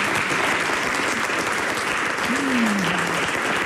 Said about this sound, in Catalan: Aplaudiu-la, home.